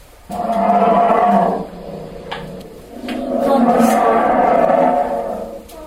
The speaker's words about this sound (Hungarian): Disznó. Nem. Leopárd. Na, még egyszer hallgassuk. Nem. Na, ez egy nagy barna. Medve. Medve! Így van.